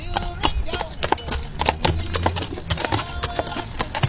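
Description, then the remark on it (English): Carriage horse hooves clip-clop in a steady, uneven rhythm on hard ground, moderately loud, with low rumbling and faint background voices underneath, as the carriage horses at a festival are taken back out to the park. “Where are you taking the horses at, baby? Back out to the park.”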